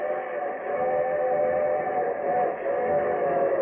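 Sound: approaching train with whistle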